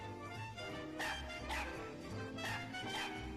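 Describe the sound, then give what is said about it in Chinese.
A voice imitates a dog barking and its echo in a forest, repeating a string of fairly loud woofs in a steady rhythm over about three seconds, with faint background tones underneath. “你要叫一声汪汪，森林里的回声啊，就会叫上十声百声，汪汪汪汪汪汪。”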